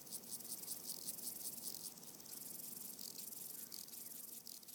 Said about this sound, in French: Ou bien juste buzzing insects. Des insectes qui bourdonnent. But how? Mais comment tu enregistres un insecte qui bourdonne? Just record them. Tu l'enregistres, c'est tout.